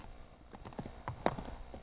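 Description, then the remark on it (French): Horses' hooves clip-clop past on a hard surface, a steady run of sharp knocking steps, with no one talking. “C'est rien, c'est les chevaux qui passent.”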